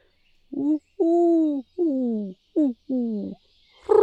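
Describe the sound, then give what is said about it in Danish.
Doves perched in a tree coo in a clear series of five low, soft, throaty notes, the first and last pairs short and the middle ones drawn out, with no other sound until a brief noise at the end. “Kurrede duerne til svar, og Bjarne tog det som et godt tegn.”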